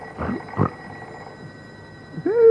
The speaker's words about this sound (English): Who turned on the fire bell? Go back to sleep, Stumpy. It's only the phone.